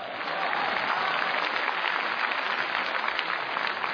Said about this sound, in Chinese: 你看看，亲爱的观众朋友们，这个掌声 啊， 够多么热烈！ 太热烈了。 我认为啊，这么多的观众 是 这么热烈的掌声， 嗯， 全都是给您鼓的。